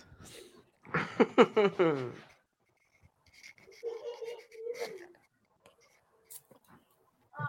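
A cat lets out a loud, drawn-out meow, then makes softer, quieter mewing sounds amid light scratching and rustling noises.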